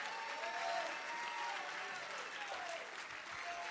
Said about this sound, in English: If you're glad that he's alive and you know that he's alive, clap your hands unto him and lift up your voice. Give him a bit of a shout of praise.